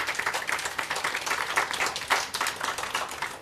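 A crowd applauds steadily at the end of a technical talk, a dense wash of many hands clapping at once, sustained and fairly loud throughout without any voices standing out.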